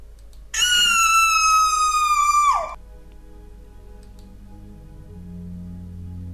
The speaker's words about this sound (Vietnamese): Cô bỗng hét lên một tiếng rất lớn.